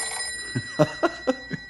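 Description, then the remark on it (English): A telephone bell rings at a ranger headquarters in a quick, steady series of about half a dozen metallic strikes, clear, with no voices present. “It's only the phone.”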